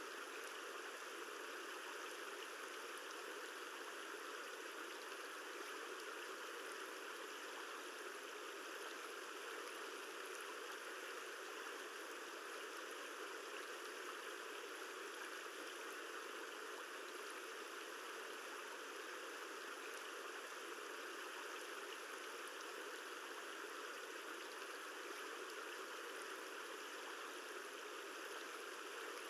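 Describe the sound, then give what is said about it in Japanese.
Soft, continuous rush of river water flowing around a boat travelling along the river, steady and unbroken for the whole stretch, with an even hiss and no voices or distinct splashes standing out. “しばらくはこのまま川を進んでいこうね。”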